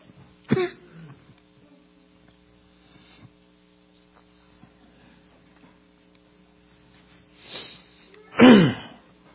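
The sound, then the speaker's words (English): A preacher gives a sharp cough near the start, then quiet with faint rustling, followed by a rougher throat clearing and a loud cough close to the end, all over a steady electrical hum. “Why is it that every time that I start preaching on the devil, he tries to choke me? Let me just get a cough drop here.”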